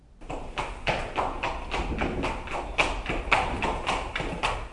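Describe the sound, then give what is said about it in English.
Hollow coconut shells clop together as a sound effect in a steady galloping rhythm, a string of sharp, woody knocks imitating a horse's hooves, fairly loud and continuous with no voices over it. “Well, coconuts sound like a horse galloping. They sound just like real horses.”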